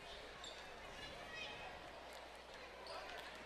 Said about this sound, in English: And Alma's going to get the ball in the possession arrow. She's dribbling, making a move.